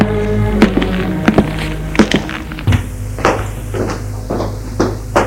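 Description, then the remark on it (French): Knocking on an office door: a series of sharp wooden knocks in small irregular clusters, moderately loud, over a steady low hum with no voices. “Il frappe à son bureau.”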